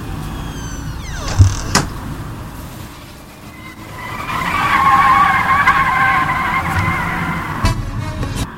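Cars on a road with a prolonged tire screech that swells in the middle and holds for a few seconds, over a steady rumble of traffic, with sharp clicks near the start and end.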